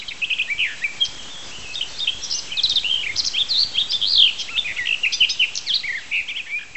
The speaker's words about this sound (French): Allez, on écoute la fauvette des jardins.